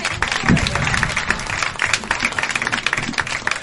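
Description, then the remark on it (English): A comedy show audience applauds steadily, many hands clapping in a dense, continuous patter at a loud, even level for a few seconds, with a faint voice or cheer briefly rising in the mix. “Please give a big, big round of applause.”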